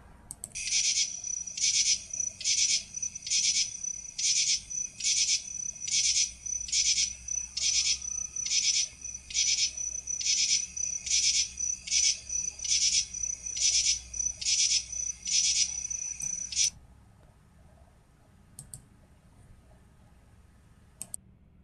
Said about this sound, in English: Now, listeners, we're going to move into a different insect. This one coming up is going to sound very different to you. Let's listen.